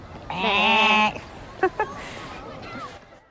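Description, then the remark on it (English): A person imitates a sheep, letting out one loud, drawn-out, wavering bleat, followed by a couple of short soft clicks and faint breathy noise. “Right, and what does a sheep go?”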